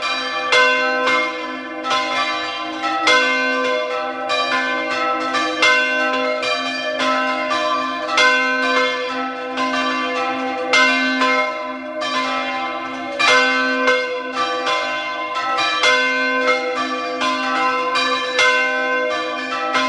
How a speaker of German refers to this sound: Es ist 12 Uhr. Sie hören die Glocken der Pfarrkirche zur heiligen Maria Magdalena aus Pfatten in Südtirol.